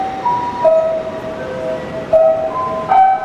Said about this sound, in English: That was the traditional chimes that go off every day in Tokyo at 5 p.m.